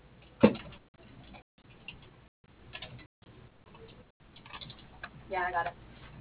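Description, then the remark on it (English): Scattered clicks of phone keypad buttons being pressed to spell a last name into an automated company directory, over a thin, muffled telephone line, with brief silent gaps and a faint voice murmuring near the end. “The keys entered do not spell a recognized name.”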